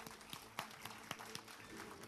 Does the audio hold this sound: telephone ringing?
no